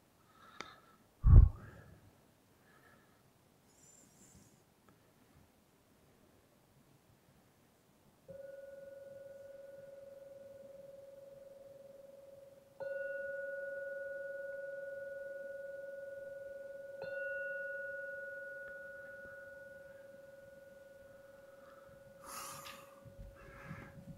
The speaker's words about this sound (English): And now, I've got to ring that gong. Ring it 3 times. At the end of the 3rd ringing of the gong, it's an invite to come out from the meditation and open your eyes.